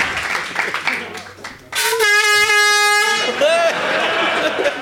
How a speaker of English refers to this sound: Hit that air horn.